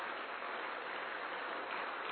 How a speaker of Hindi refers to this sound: Sir के लिए एक बार जोरदार तालियां।